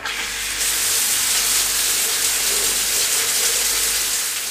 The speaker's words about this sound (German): Als sie in dem Zimmer drin waren, gingen erstmal alle beide duschen.